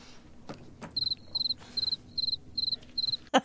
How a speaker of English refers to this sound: They whipped out the cricket sound for that. Man, they do that.